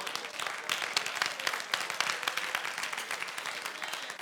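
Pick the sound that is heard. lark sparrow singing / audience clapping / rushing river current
audience clapping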